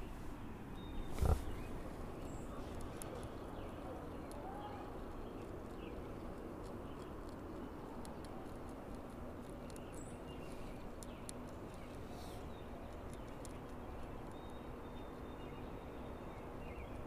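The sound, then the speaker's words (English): Faint, irregular crackling and tiny ticking clicks of big bumblebees chewing into the wood of a porch deck, scattered over a steady low rumble, with one sharper knock early on. No one speaks. “That crackling sound is the sound of them, like, eating the porch wood.”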